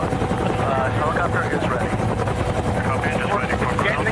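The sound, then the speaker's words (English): Loud, steady helicopter rotor noise fills the scene, a constant low throbbing drone with a dense engine roar, with no break for the whole stretch. The helicopter has a rope hanging out of it, and a crowd watches from below. “Okay, put camera into position in the helicopter.”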